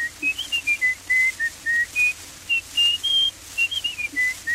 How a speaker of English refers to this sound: A tin whistle.